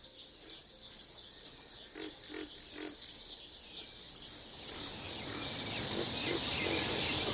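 crickets chirping

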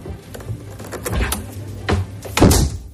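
refrigerator door being opened

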